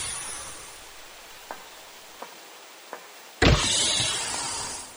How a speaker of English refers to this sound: Stand by for egress. Still standing by. You are cleared for egress. Door opening.